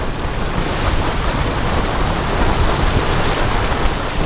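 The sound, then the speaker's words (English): Grand Geyser erupting alongside the Turbine and Vent geysers, the big one shooting water over 200 feet, with water gushing in a loud, steady, rain-like roar that holds its level for the whole stretch. A rumbling low end sits beneath a hissing spray, and no voices are heard. “The big one shoots up over 200 feet. This is Grand Geyser.”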